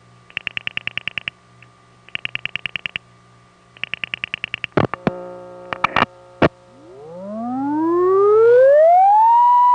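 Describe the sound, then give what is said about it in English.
A mechanically generated phone test tone spins up, its pitch gliding steadily upward as it gets louder and settles near a steady whine, after earlier bursts of pulsed tones and a few sharp clicks. “It's a rotating device that has to get up to speed before it reaches the nominal 1 kHz at 1 milliwatt.”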